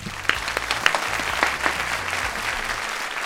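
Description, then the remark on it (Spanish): An audience applauds the day's guest artist, a singer, breaking into steady applause, a dense wash of many hands clapping with a few sharper claps standing out, sustained at an even level throughout. “Enseguida, un aplauso para él, como se merece, por favor, a nuestro artista de hoy.”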